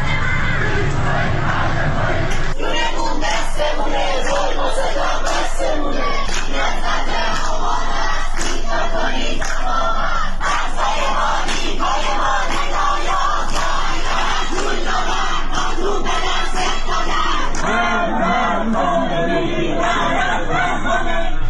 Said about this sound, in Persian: جمعه 13 آبان 1401 20 متری جوادیه، بچه ها دارن شعار میدن.